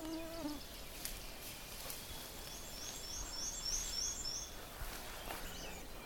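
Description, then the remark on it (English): Black-and-white warbler song at a bog by the water's edge: a thin, high-pitched run of about six or seven squeaky paired notes in quick, even rhythm, over a steady outdoor hiss, with no talking. “I'm hearing a black and white warbler.”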